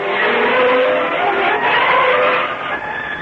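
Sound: car driving off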